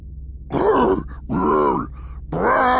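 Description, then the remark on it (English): Three loud, drawn-out Wookiee growls from Chewbacca, saying "Porgs", each a warbling, throaty roar with rich harmonics, separated by short pauses, over a low steady hum. “"Porgs," growled Chewbacca.”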